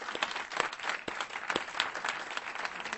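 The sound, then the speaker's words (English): A crowd applauds steadily for a few seconds to acknowledge event sponsors, many hands clapping in a dense, even patter at moderate volume with no voices standing out. “So join me in a round of applause acknowledging all these great sponsors.”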